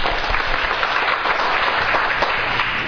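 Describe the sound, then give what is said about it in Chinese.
A group of about nine people clapping their hands for themselves after a team activity, in steady, dense applause that fills the whole stretch at an even, moderately loud level, with no voices standing out. “哇，刚才你们好棒哎，给自己一个拍手来。”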